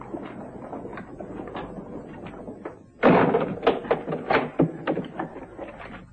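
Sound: door being shut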